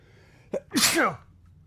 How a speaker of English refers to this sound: Now, keep in mind at this time as well, what I was doing is sneezing. I sneeze.